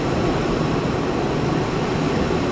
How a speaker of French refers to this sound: C'est impressionnant le niveau de bruit à ma gauche et à ma droite. Des murs entiers de ventilateurs avec des petits fils jaunes et noirs.